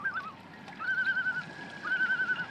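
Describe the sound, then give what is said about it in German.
A common loon's call, played back from a CD kept in a camper van: two sustained, wavering mid-pitched wails with a slight tremolo, each lasting under a second, over a soft background hiss. “Der Ruf des Eistauchers schallt allerdings nicht über einen vom Mondlicht verzauberten oder vom Nebel verschluckten See zu Morris herüber, sondern kommt von einer CD.”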